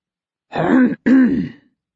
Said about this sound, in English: The occupant of the big chair behind the desk clears his throat.